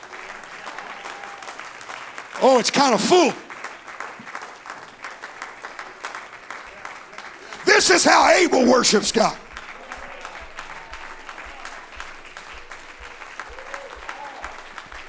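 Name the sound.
audience clapping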